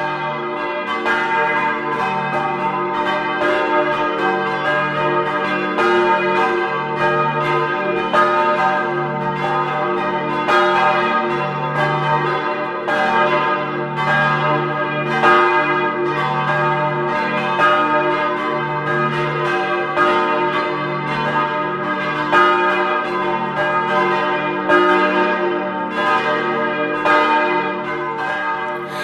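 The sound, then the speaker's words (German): The bells of the Church of Mariä Unbefleckte Empfängnis (Immaculate Conception) in Blons, Vorarlberg, peal continuously at noon, several bells overlapping in a dense, steady ringing with regular strikes and a rich, lingering hum, loud with no voices. “Es ist 12 Uhr. Sie hören die Glocken der Kirche Mariä Unbefleckte Empfängnis in Blons in Vorarlberg.”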